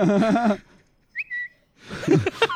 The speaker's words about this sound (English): Ooh, whistles. No, that's the tweet bird, isn't it?